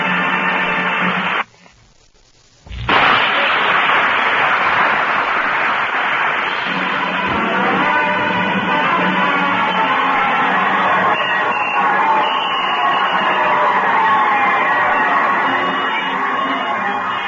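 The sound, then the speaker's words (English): A large crowd roars and cheers continuously, with scattered yells and whoops in a dense wall of noise, briefly cutting out near the start before surging back loud and sustained. “Can you hear your voice and the joyous noise of that crowd?”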